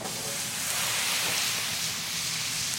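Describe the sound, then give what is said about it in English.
A loud, steady hiss of water sizzling in a hot, oily pan, a broad crackling rush that holds evenly for a few seconds with no one speaking. A ladle of pasta water is thrown into the pan with sausages, garlic and oil. “I took a ladle of water, and I threw it in the pan with the sausages and the garlic and the oil.”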